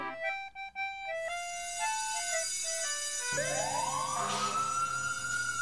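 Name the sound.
fire engine siren wailing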